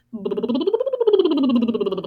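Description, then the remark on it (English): A voiced lip bubble, done as a semi-occluded vocal tract singing exercise: lips fluttering rapidly while the pitch glides up, then slowly back down, one continuous sound of about two seconds. “Some SOVT exercises that you might have heard of are a lip bubble or a lip buzz.”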